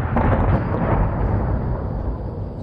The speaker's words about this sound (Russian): В это время на другой стороне бухты послышались взрывы.